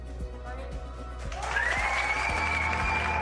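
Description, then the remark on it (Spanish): A group in a team locker room bursts into applause for a player returning to training ten months after brain tumour surgery, a dense wash of clapping that swells after a second and keeps going steadily, with a few sharp low knocks early on. “Por supuesto, nos sumamos desde aquí a los aplausos del vestuario porque son 10 meses después de ser operada de un tumor cerebral y ya con el tratamiento de la quimioterapia superada.”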